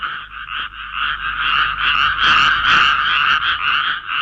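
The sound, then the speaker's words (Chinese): A dense chorus of many frogs croaking at once as frogs cover all of Egypt, even Pharaoh's palace, a continuous rattling, pulsing din that swells slightly midway, loud with no voices. “很快的，青蛙就上来遮满了全埃及，甚至法老的王宫里也到处都是青蛙。”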